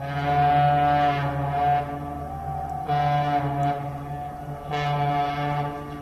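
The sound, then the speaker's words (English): The car ferry SS Badger sounds its deep horn as it sails into Manitowoc Harbor around noon, with a small crowd on hand: three long, loud tonal blows with brief gaps between them and a steady rumbling drone underneath throughout. “A small crowd was on hand when the SS Badger sailed into the Manitowoc Harbor one day around noon, and the boat's horn sounded.”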